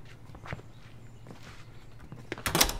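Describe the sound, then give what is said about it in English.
A few soft footsteps shuffle, then a door is pushed shut with a loud thud and brief rattle near the end. “Shut the door.”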